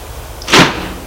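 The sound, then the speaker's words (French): A bedroom door opens at night with one short, fairly loud burst of noise, a quick swish ending in a soft low knock, set against a quiet hum with no voices. “Il est réveillé par la porte de sa chambre qui vient de s'ouvrir.”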